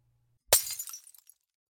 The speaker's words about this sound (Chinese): 你吓唬谁呢？你怎么往地上砸呀？你砸我呀？往我头上砸呀？